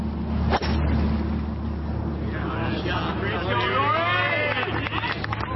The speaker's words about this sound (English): There's going to be a cheer at the end of this one. What a shot. What an incredible shot. Absolutely fluff right down the pin.